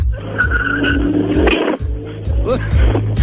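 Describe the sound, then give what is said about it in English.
A car engine revs hard as the vehicle accelerates off out of a parking lot, with a brief tire squeal partway through and muffled voices faintly underneath. “I'm getting in my car and taking off.”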